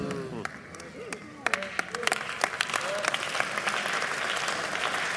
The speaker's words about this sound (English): We didn't ask you to clap, so if you're going to praise God's grace, praise His grace well.